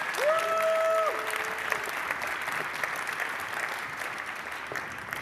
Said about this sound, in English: please give them a big round of applause for this talk.